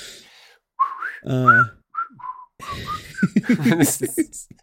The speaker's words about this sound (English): You started doing that and he's like, what, treats? He's whistling, where's the treats?